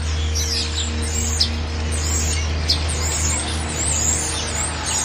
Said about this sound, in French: Les oiseaux ici ne chantent pas pareil. On dirait qu'ils ont un autre accent.